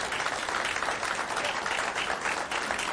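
An audience applauds steadily, many hands clapping in a dense, crackling wash that stays fairly loud and even throughout, with no voices standing out.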